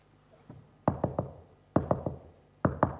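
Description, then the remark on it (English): Three quick sets of knocks on a door at night, each a tight cluster of three firm raps, with a faint tap before the first set, with no talking. “Well, that night, the man was lying in his bed and he heard another knock.”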